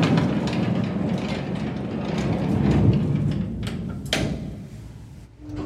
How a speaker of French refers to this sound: Train de wagonnet tiré par un cheval aveugle.